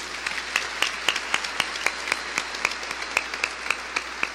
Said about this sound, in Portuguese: Parabéns, vocês fizeram com a ajuda dos catequistas todo um percurso durante a quaresma e o tempo pascal. Parabéns, vamos dar um aplauso para estes.